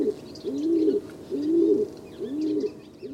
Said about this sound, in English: Even the humble rock pigeon that you see strutting around on the sidewalk has these air sacs. A male rock pigeon inflates his air sac while he's cooing as he attempts to win the heart of a female.